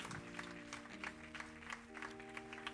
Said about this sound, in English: Give God a super clap offering.